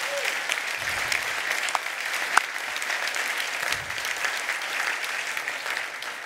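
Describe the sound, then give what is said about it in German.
Steady audience applause, a dense wash of many hands clapping at an even, fairly loud level throughout, with one sharp clap standing out briefly partway through. “Da könnte mir Gott auch mal einen Applaus geben, dass das überhaupt möglich ist.”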